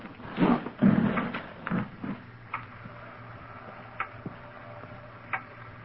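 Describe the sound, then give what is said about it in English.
A loud clock ticks with sharp, distinct clicks spaced evenly, following a few louder knocks and shuffling sounds at the start; no one speaks. “Loud clock, ain't it?”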